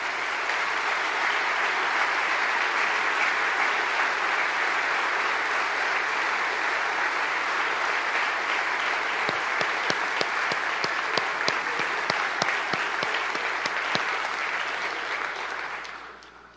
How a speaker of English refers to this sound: We actually have several of them with us tonight up in the gallery from Charlotte, Everett, Harrison, and River Rouge. If you'd please stand up, we'll give you a round of applause.